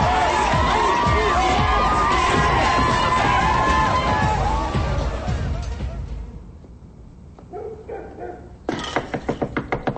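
A loud, dense party crowd dancing wildly in a living room, where diet meals burn in the fireplace, cheers and shouts for several seconds, then the noise drops away to scattered voices before a brief rhythmic burst of clapping or stomping near the end.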